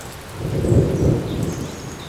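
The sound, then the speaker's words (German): Steady rain patters down in a park on the edge of town while a low thunder rumble swells and fades in the distance, with no voices present. “Es regnet. In der Ferne grummelt ein Gewitter.”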